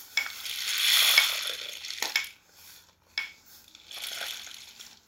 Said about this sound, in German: Bald lässt der Regen wieder nach. Nur noch einzelne Tropfen fallen von den Bäumen.